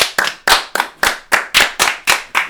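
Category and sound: crowd, clapping applause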